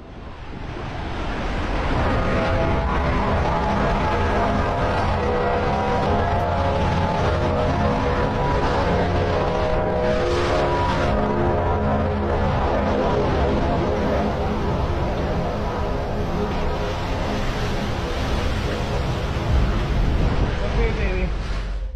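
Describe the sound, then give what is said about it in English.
A sustained, droning trumpet-like blare with steady harmonic tones coming from outside, rising through roaring wind and rain of a massive 2023 typhoon, the loud storm noise running continuously for over twenty seconds. “After hearing what could only be described as a judgment trumpet coming from outside while the storm is wailing, he tries to calm his daughter by telling her it's okay.”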